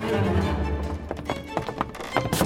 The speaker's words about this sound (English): What's that noise? It's the cable car engine. It's starting up. She's going to leave us behind.